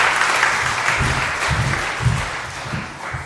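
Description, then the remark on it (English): A room full of people claps steadily, a dense wash of hand claps sustained at even volume for a few seconds with no voices over it. “Quick round of applause for all our hunters and gatherers.”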